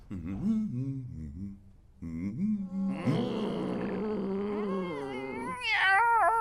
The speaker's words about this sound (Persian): او چه جذاب، چه گربه باحالی، معلومه که خیلی شکمو هستی درسته؟ چی کار میکنی؟